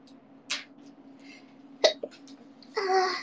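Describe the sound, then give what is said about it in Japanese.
A sudden, sharp sneeze bursts out, with a couple of shorter breathy puffs around it and a brief voiced sound trailing at the end, over a low steady hum. “くしゃみ助かる。”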